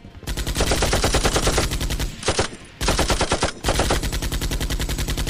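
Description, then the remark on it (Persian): Sustained rapid automatic gunfire, loud, rattling in long bursts with two brief pauses before resuming; no voices are heard. Fighters are firing as covering fire so their comrades can retreat. “با شلیک اونا من برگشتم.”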